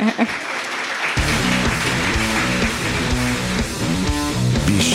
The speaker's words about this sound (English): Clap now. You clap now.